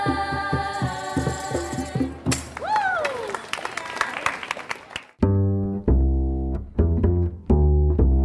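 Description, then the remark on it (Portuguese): A burst of audience applause, a dense crackle of clapping lasting a few seconds, sits between loud stretches of tonal, harmonic music that play before and after it. “Palmas Invicta!”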